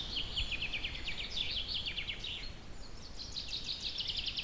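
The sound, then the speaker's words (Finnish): A chaffinch sings two quick, trilling phrases of bright, cascading notes in a forest in spring, over a low, steady rumble of forest background noise. “Tai heti kun aurinko saa valtaa, keväästä on joku tieto, silloin peipposet tulevat tänne metsään.”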